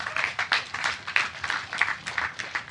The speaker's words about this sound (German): Ey, danke erstmal für dein Plädoyer. Kurz Applaus dafür.